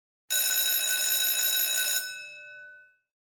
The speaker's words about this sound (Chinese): 对不起，刚才是学校铃声，现在是休息时间。